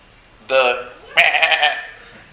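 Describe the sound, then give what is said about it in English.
Two voices imitate a sheep's bleat, one after the other: a steady, nasal baa followed by a longer, wavering one that pulses rapidly. Both are fairly loud. “Well, I guess goats kind of make the same noise, don't they?”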